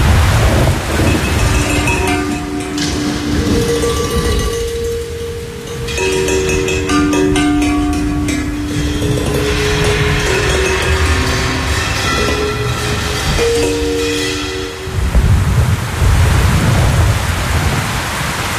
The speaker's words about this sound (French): On va écouter l'orage et la pluie, là. C'est trop beau.